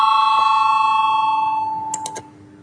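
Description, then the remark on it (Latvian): A bright electric voting bell rings steadily in a parliamentary session, calling deputies to vote on a proposal, with a sustained metallic tone, then three quick struck chimes close the sound near the end, fairly loud and with no voices. “Lūdzu zvanu, balsosim par otro juridiskā biroja iesniegto priekšlikumu.”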